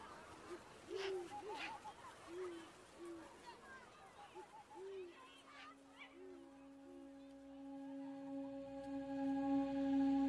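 owl hooting

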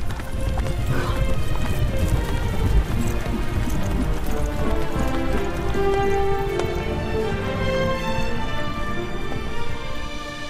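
horse hooves galloping away

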